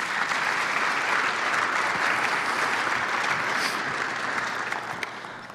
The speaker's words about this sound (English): Will you give her a round of applause?